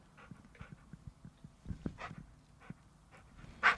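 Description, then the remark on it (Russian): A shaggy dog pants and snuffles in quick, rhythmic breaths, with a few brighter whines in between and one sharper, louder yelp just before the end. No one speaks. “Этот пес-лохмач часто навещал слепую в ее одиночестве, а иногда оставался в сарае даже на ночь.”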